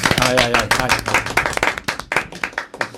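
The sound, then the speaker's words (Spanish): A burst of audience applause, dense and loud at first, then thinning into scattered individual claps as it winds down, with a voice briefly audible over the opening second. “Vamos a aplaudir.”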